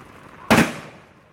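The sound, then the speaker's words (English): A single sharp report from a rifle volley salute, fired by seven soldiers as part of a 21-shot salute, cracks out, loud and sudden, then fades into a brief echoing tail, with no voices. “Seven riflemen reloaded and fired again. And again, 21 shots.”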